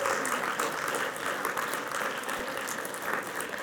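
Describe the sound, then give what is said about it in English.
An audience bursts into sustained hand clapping to praise the Lord, a dense, steady wash of many hands at moderate volume with no pause, lasting several seconds without any voices. “Well, go ahead and give the Lord a hand clap. Don't patty cake, just go ahead and bless Him.”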